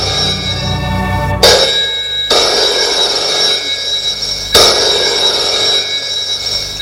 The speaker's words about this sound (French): Harold est dans son bureau, le téléphone retentit.